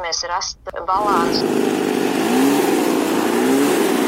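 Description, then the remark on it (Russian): A brief bit of talking gives way to a loud, steady motorized leaf blower engine, used for clearing autumn leaves, roaring continuously with a faint whine rising and falling over the noise. “Если пользоваться листодувами с умом, не с позаранку, когда люди еще не проснулись, и не выдувать листья из-под ног людей, стоящих на остановках.”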